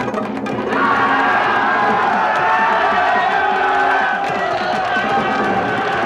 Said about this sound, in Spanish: La manifestación se detiene y mira hacia el grupo de guardias. Les atacan histéricos.